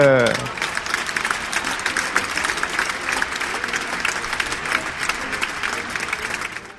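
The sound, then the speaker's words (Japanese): Steady applause from a group opening a special broadcast program presented by a small ensemble, a dense patter of many hands clapping at an even level for several seconds, with a brief voice fading at the very start. “拍手。”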